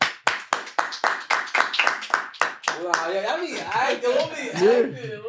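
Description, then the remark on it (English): An audience gives about nine sharp hand claps in a steady, even rhythm for a few seconds, then excited voices and laughter take over. “Clap your hands if you got somebody that you know you can always go to and things go...”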